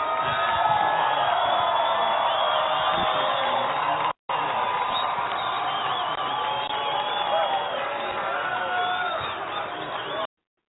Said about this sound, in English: That was quite a crowd there at that rally, huh?